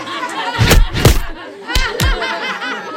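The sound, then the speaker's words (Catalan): Children jeer and snicker at a boy with a big nose while several heavy punches to his nose land, four blows in two uneven pairs cutting through the mocking laughter. “Cop de puny al nas. I cop de puny al nas també calia?”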